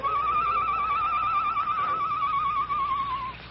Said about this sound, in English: Shortly after the sheriff and the Perrys had left the Lone Ranger's cell, he heard the low call of a night bird outside the barred window.